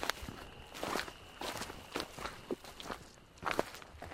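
Steady footsteps crunch along a trail at an even walking pace as people walk back to the trailhead in darkness, roughly eight or nine crisp steps with a faint constant hiss behind them and no voices.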